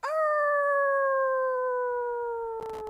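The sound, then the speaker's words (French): A golden-furred she-wolf gives a single long howl at the moon. It rises quickly, then holds a steady, slowly falling tone for nearly three seconds, loud and clear, with a brief noisy rustle near the end. “À ce moment-là, une des louves au pelage doré se lève pour hurler à la lune.”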